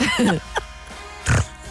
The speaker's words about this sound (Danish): Må du altså hikke af hjemmefra.